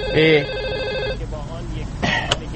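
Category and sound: signal or alarm, telephone ringing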